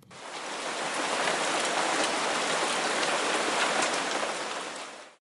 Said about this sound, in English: It was raining really hard. I could see the shadows of trees that were being blown around by the wind.